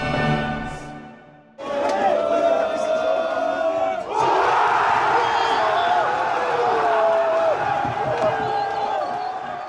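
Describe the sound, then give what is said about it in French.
After a brief steady tone, a dense crowd of football supporters in a bar in north-east Paris erupts into loud, sustained cheering, shouting and crying, some jumping on tables, with excited voices overlapping and a surge of fresh yelling about midway through. “Des cris, des pleurs, des supporters sautant sur les tables.”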